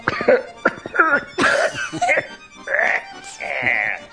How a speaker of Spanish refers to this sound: Pues espero que se sientan contentos de estar escuchando esta música que a mí me trae muchos recuerdos, aunque hoy la tos...